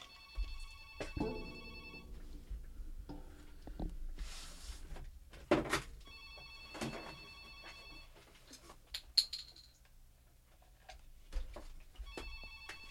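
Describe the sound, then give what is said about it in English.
A telephone rings in repeated trilling bursts with pauses between, while clunks, rattles and handling noises suggest the phone being fiddled with and unplugged. No one speaks. “I have to unplug my phone.”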